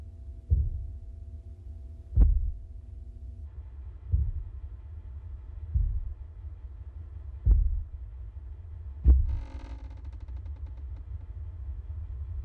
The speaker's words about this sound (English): The foyer cam picks up the sound of footsteps on the stairs.